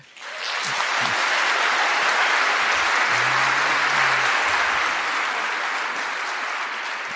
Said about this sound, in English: I note that all three endorsements have gotten applause, rounds of applause. So I'm watching you, Melbourne.